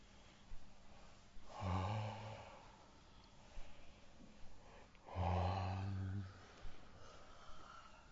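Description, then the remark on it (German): Two long, deep breaths in and out, taken while moving a little, each a heavy breathy rush with a slightly voiced, groaning edge, separated by a few seconds of quiet. “Bewegen uns ein bisschen, atmen, dabei tief ein und aus.”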